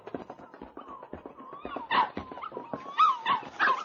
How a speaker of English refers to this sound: Listen. That sounds like a puppy. Where's it coming from? Over there, behind those bushes, I think.